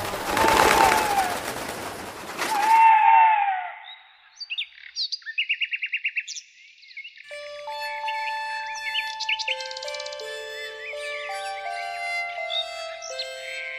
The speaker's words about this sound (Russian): Так собрала она в замке целых 7000 клеток с разными диковинными птицами.